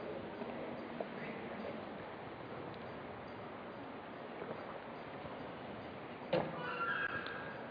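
A horse neighs in a short, high whinny near the end, after a sharp knock, over a steady bed of outdoor background noise; no one speaks.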